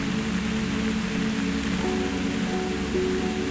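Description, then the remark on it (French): Steady, gentle rain pattering on a surface, a soft continuous hiss with a faint low hum beneath it and no voices. “Je dois vous laisser sous les nuages, ballottés par la douce pluie.”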